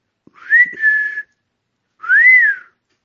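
A man standing at night before the front door of a house, looking up at dark windows, whistles to call someone: two loud, clear calls separated by a short pause, the first rises and then holds steady, the second swoops up and back down. No one speaks.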